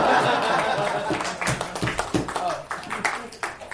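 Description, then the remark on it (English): Scattered, light clapping from a small group at a coffee house poetry competition after a poem is performed: a loose patter of sharp hand claps with a few chuckles and murmured voices mixed in, fairly soft and irregular throughout. “The proper coffee house applause there.”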